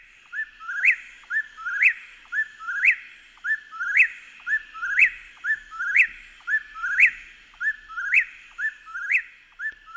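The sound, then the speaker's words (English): A whippoorwill calls over and over, its sharp whistled three-part phrase repeating about once a second, roughly ten times, clear and loud with no other sounds. “I have not heard a whippoorwill in probably 3 years. And so we're going to play the sound”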